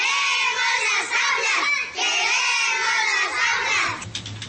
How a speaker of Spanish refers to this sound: Queremos las aulas, están gritando los niños de Putumayo, a ver si de pronto los escuchan, porque las promesas son incumplidas.